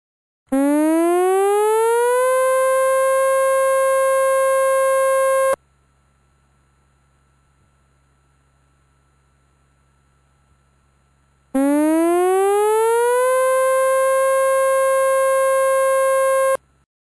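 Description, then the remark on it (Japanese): A loud civil defense siren sounds twice, each blast winding up in pitch and then holding steady for about five seconds, with a silent pause between them and a faint low hum beneath; a tsunami warning siren from the Wakayama Prefecture disaster prevention broadcast, Japan, telling people near the coast to evacuate to high ground. “津波警報が発表されました。海岸付近の方は高台に避難してください。”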